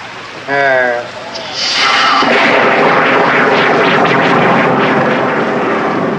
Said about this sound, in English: Yes, it's raining.